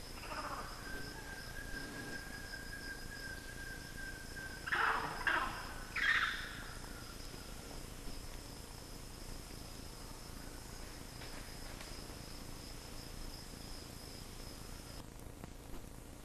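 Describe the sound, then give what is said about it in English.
A short cluster of three or four sharp chirps from a red-tailed or mitis monkey rises midway through, over a steady high-pitched insect drone and a low hum that carry on throughout. “Chirps from somebody, either Red Tails or Midas.”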